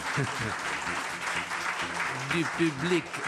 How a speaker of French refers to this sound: C'était sous les applaudissements affectueux du public de